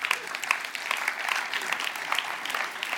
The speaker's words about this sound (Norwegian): Fordi at, amen, kan jeg gi en klapp på det?